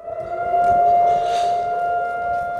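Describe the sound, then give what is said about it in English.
A memorial civil defense siren, sounded for victims of October 7th and soldiers killed in the war, wails in a long, unbroken tone, loud and steady throughout with a faint echo, and no one speaks. “So this siren wails, traffic stops, people literally get out of their cars and stand at attention on the highway.”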